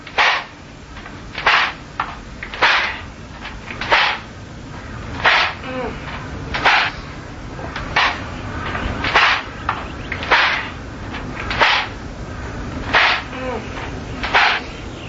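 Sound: whip cracking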